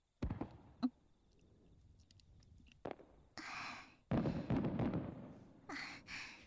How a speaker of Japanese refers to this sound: もう一つ上がった。綺麗。夏の夜、縁側でこうやって花火を見ながら冷たいものを楽しむ。